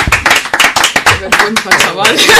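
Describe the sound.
A burst of clapping from a group, dense and steady for a couple of seconds, with voices calling out over the applause.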